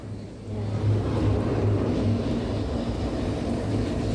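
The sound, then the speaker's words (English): A car engine idles with a steady low rumble and faint hum, holding at an even, moderate level throughout with no voices. “Oh, I better go and check that car, hadn't I?”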